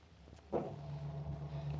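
sound effect, hurried footsteps

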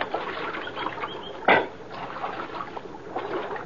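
nature, splashing creek water

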